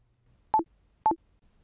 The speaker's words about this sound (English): Please look out for the way markers with the audio point number on them. Continue listening after the beep if you're now at Corwen Car Park.